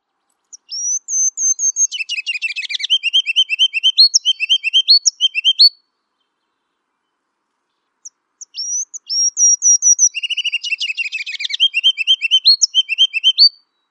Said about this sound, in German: Dann ein etwas kleinerer Vogel, das Rubin-Goldhähnchen, das man in Alaska, Kanada und Nordamerika findet. Wieder ganz ein anderer Gesang.